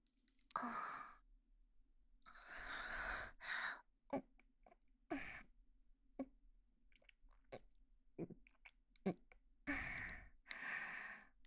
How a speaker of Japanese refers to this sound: 目の前で女の子が咀嚼しちゃってる。